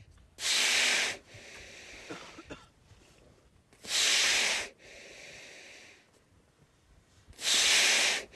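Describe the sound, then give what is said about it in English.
A seal that has surfaced at a hole drilled by people breathes heavily: three loud, hissing snorts of breath about three and a half seconds apart, with softer, rasping inhalations in the gaps. “So typically they will do 15-minute dives, and then they will come up and breathe heavily, as you just heard, and then, of course, you'll hear the breathing tail off as they oxygenate.”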